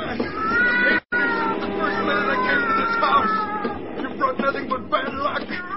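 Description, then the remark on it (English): A cat, Lady Susie, yowls loudly while a man tries to push her into a furnace. She gives long, wavering, drawn-out cries that rise and fall, with a brief break near the start and shorter strained yowls trailing off toward the end. “Drop that cat this instant.”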